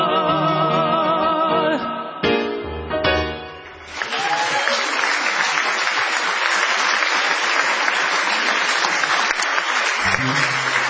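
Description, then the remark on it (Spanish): A song's final sung notes give way to steady, loud audience applause, a dense wash of clapping that holds for several seconds with no voices heard over it. “A ver, niños, de esas palmas, hombre.”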